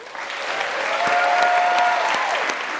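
A crowd claps steadily for two speakers at the end of an event in the United Kingdom, a dense patter of hands that swells slightly and holds strong throughout, with a faint whistle-like tone cutting through in the middle.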